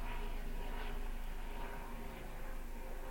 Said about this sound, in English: Here comes the black helicopters to shut down the transmission.